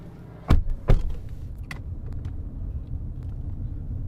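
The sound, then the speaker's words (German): A car idles with a steady low engine rumble, two sharp clunks early on, then the engine settles into a quiet hum as the car stops in front of a building in Santa Cruz. “Das Auto hält vor einem Gebäude.”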